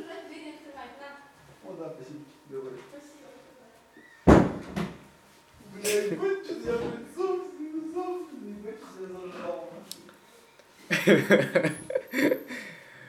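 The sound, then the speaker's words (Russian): A door bangs open with a single sharp thud partway through as someone arrives in a dormitory, while people talk before and after it. Bursts of laughter follow near the end. “Там кто-то пришел? Да.”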